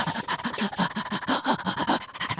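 Actor Bill Irwin, performing the dog Stanton, pants rapidly and steadily, quick breathy huffs in a fast, even rhythm, with no words over it.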